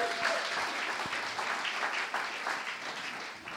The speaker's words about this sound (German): Ist das hier eine tolle Gemeinde mit Gastfreundschaft? Was macht man dann? Applaus geben. Dankeschön.